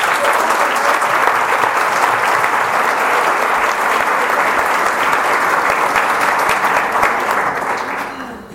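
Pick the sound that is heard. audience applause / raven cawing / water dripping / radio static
audience applause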